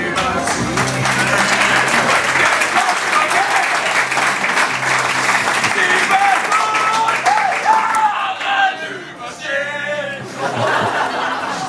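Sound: audience applause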